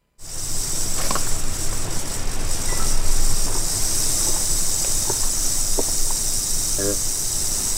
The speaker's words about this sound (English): Kind of like a real fast cricket. Okay, we wanted to play that because I imagine not all of our listeners have actually heard a rattlesnake in nature.